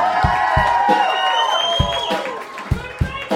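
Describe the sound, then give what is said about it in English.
A crowd cheers and whoops with rising, shouting voices, while scattered loud claps punctuate the din at irregular intervals, lively throughout, showing appreciation for the local unsigned band on the Sound Clash show. “I want you all to put your hands together, softly probably.”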